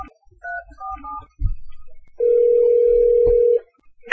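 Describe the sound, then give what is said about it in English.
A few quick touch-tone dialing beeps sound as someone dials to bring another person onto a call, then after a couple of soft clicks a single steady telephone call tone holds for over a second, clear, with no talking. “Let me see if I can't not hang up on you and get him on the phone.”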